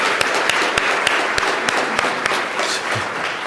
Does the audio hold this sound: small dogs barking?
no